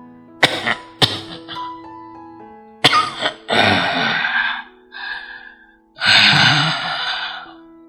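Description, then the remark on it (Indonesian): An old man's fit of harsh, violent coughing from a relapse of asthma, with rough, growling throat sounds and wheezy gasps between the bursts. Loud, with no talking. “Berguncang-guncang tubuh tuanya diserbu batuk-batuk hebat serta geraman yang berasal dari tenggorokannya.”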